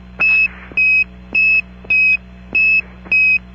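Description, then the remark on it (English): A series of six short, steady high-pitched radio key tones, sent during an Apollo 10 voice check between Houston and the Goldstone station, evenly spaced about half a second apart, sounding alone over a low constant hum. “Roger, stand by, I'll send you three short keys.”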